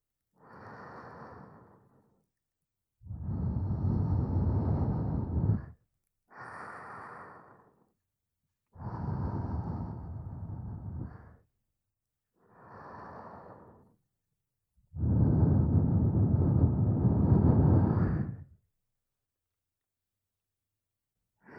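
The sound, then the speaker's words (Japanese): Slow, warm breaths blown out: three long, heavy exhales with a breathy low rumble, each preceded by a softer, shorter intake of breath, with silent pauses between. No one speaks. “私の吐息、あったかいですか。”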